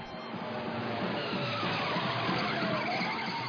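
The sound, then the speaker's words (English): A car skids and spins out on an oil slick, its tires screeching in a steady, loud rush of noise that runs without a break for a few seconds, engine roar underneath and no voices. “Oh, to spin it around.”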